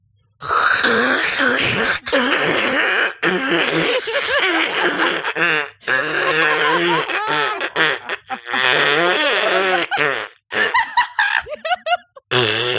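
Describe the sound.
A voice imitates the grinding sound of orbital maneuvering engines with loud, raspy, buzzing vocal noises that waver in pitch, running in several long bursts separated by short pauses and breaking into choppy sputters at the end.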